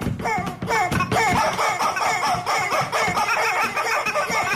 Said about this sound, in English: there's four guys with four rubber chickens, and really? they're making this electronic music.